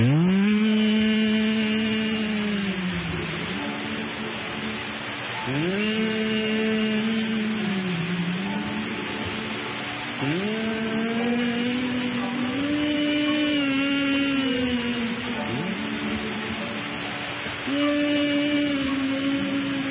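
An audience, heads bowed, hums a slow hymn together, many voices blending into steady, sustained melodic phrases that rise and fall in long breaths, fairly loud and continuous with no words sung.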